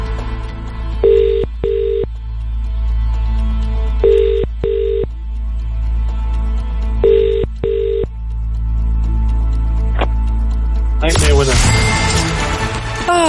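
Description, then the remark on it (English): A telephone rings three times as a radio prize-draw host calls a randomly picked entrant, each ring a quick double burst with pauses between, clear and fairly loud over a low hum, before someone answers and starts talking at the end. “To bag the cash, you just need to answer your phone within 5 rings and you must say,”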